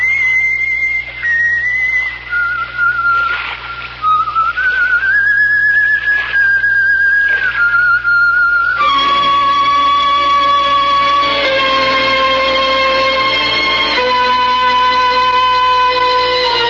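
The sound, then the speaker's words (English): A woman whistles a fairly loud tune, moving through a slow, wandering melody of held and sliding notes, with no one talking over it. “There's an apparition for you. A whistling, pipe-smoking lady with a cutlass at her belt.”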